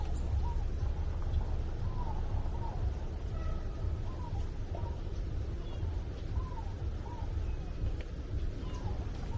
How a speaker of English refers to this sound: It's quite beautiful here in the Secret Garden, eh? With all this weird stuff going on in the world. And here I am just sitting here listening to the birds.